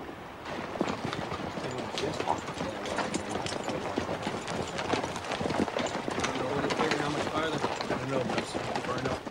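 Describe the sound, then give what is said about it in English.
Horse hooves clip-clop steadily and quickly over a dense, busy background, the clattering beats fairly loud throughout, with voices faintly mixed in; the horses are ridden on the Yankee shore of a river. “sit on their horses on the Yankee shore.”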